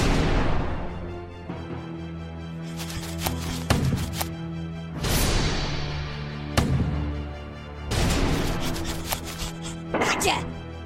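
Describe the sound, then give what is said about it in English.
Heavy cannon blasts go off again and again, about every two seconds, each a loud booming crack with a rumbling tail over a steady low mechanical hum. “He had to stuff it in there in between firings.”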